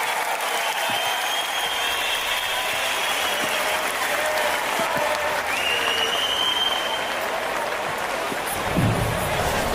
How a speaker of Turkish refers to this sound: Baneva karşınızda. Alkışlarla.